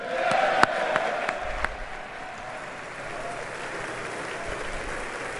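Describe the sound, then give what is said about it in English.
Sustained applause from a large standing crowd of Republican and Democratic members of the US Congress as French President Emmanuel Macron is presented. A dense wash of clapping stays steady throughout, with a few sharper claps standing out early and a faint crowd murmur beneath. “Everybody's up clapping, clapping, clapping again.”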